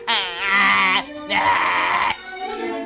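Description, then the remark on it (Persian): A loud, harsh donkey bray, voiced in two long strained bursts with a short break between, ending in a rougher, quieter tail, prominent with nothing else around it. “تو مثل یه الاغ میخندی.”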